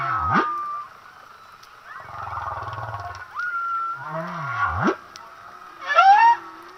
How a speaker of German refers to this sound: diese kleinen, kurzen Elemente hören sich lustiger an, als man sich das eigentlich so vorstellt, weil man Buckelwalgesänge immer mit dieser Entspannungsmusik verbindet